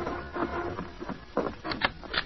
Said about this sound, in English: The following evening, there was a knock at the door of the Kilby Ranch house.